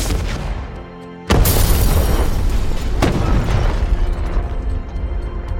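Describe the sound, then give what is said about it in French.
A parked car explodes seconds after its driver gets out, with a sudden, loud blast after a second of low rumble, and is thrown up to the first floor of the building it was parked in front of; a roaring, debris-filled aftermath follows, with a second sharp burst about two seconds later. “Un jour, alors qu'il n'a pas encore pris les armes, il sort de sa voiture qui, quelques secondes plus tard, explose et s'envole jusqu'au premier étage de l'immeuble devant lequel elle était garée.”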